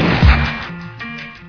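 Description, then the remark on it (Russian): A single sharp, booming gunshot rings out near the start, heavy in the low end, then fades into a lingering steady tonal hum with no voices. “Финальный выстрел только поставит овертайм в истории.”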